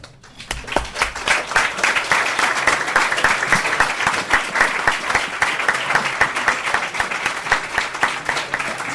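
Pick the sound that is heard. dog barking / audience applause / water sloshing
audience applause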